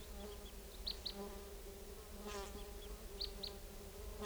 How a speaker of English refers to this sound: I've lured in a flock of about 4 type 2 crossbills, and they're perched up in a tree above the net area. And they're way up there. Stop. Recording, the flock is calling a little bit from the treetops. 384 is calling a lot, and 306 is also calling.